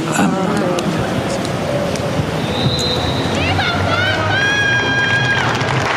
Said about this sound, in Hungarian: Kedves hallgatók, ma sem maradt el a szokásos tapsvihar, amivel megköszönik a Szentatya áldását és az ő tanítását